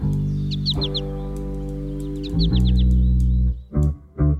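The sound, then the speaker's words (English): A sweet four-syllable flight call of a male American goldfinch rings out twice, each a quick run of four high, bright notes, heard over a steady low rumble in the background. “American goldfinch males sing a bright, bubbly song and nearly always call in flight with a sweet four-syllable.”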